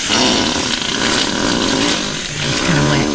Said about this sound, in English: You have a library of animal farts now? I mean, I've gone dog, I've gone deer, and now today, gorilla.